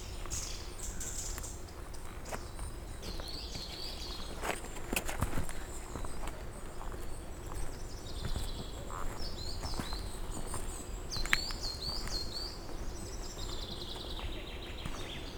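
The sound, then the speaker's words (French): Outdoor silver fir forest ambience in the mountains at 1100 metres altitude, at the Fontaine de l'Ours car park, with scattered birds chirping and trilling over a steady rustling background and occasional crunching footsteps; cool weather, 17 degrees. “Je me situe dans une forêt de sapins pectinés.”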